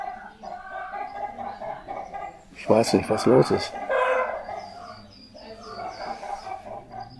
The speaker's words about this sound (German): Das haben die Hühner.